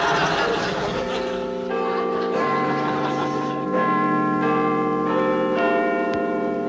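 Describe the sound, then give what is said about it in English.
A clock in a pantomime chimes with repeated bell-like strikes, each ringing tone sustaining and overlapping the next in a steady sequence, with a faint background murmur underneath. “Unless somebody fixes that clock, this pantomime's going to have a bloodier ending than Tamburlaine the Great.”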